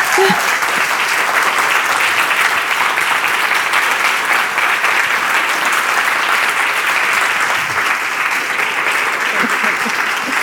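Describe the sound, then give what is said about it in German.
Sustained, loud applause from a large audience, a dense steady wash of clapping that holds evenly for about ten seconds without letting up. “Jedenfalls, sie ist heute hier und ich glaube, sie verdient einen richtig warmen, herzlichen Applaus.”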